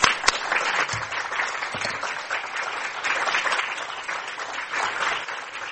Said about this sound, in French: Alors j'aimerais bien qu'ils se lèvent là, tous ceux qui sont de l'association. Pouvez-vous vous lever? Merci. Voilà, qu'on vous applaudisse un peu quand même.